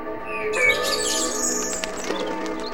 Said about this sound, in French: Le merle se pose dans l'un des arbres de la place du Mazet. Il fait de petits bonds sur la branche, ravivé par les odeurs du marché.